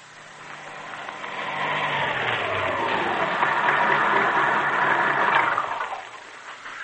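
car driving

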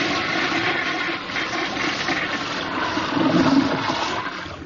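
toilet flushing

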